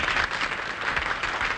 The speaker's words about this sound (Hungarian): Te, mit szólsz hozzá, tapsolnak? Nem nekünk, a táncosoknak.